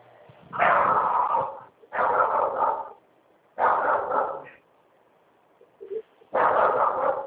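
dog barking

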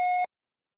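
telephone busy signal tones

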